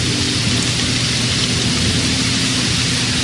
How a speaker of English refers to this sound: While you hear the rain, the tranquility of nature wending its way through this broadcast.